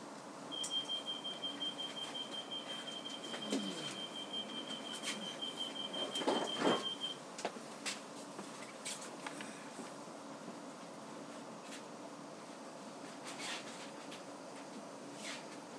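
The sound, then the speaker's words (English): A train bound for Reading pulling out of London Waterloo station, heard from a seat inside: a thin high whine for several seconds, a brief clunk, then a steady low rumble with scattered clicks and rattles. No one speaks. “I know that feeling of being told to remain on the concourse all too well, so I'm very pleased to be sitting on a train, which should hopefully be going in about a minute's time.”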